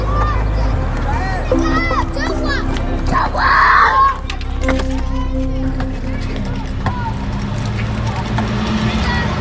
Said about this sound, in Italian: Questi sono i bambini di Carantina che giocano a pallone, sono le 5:30 del pomeriggio, sta calando il sole su Carantina. Carantina è il quartiere che si affaccia sul porto di Beirut